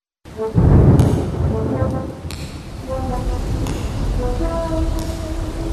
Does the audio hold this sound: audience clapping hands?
no